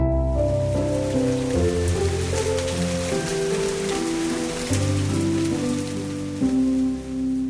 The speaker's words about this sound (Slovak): Raz celý deň pršalo.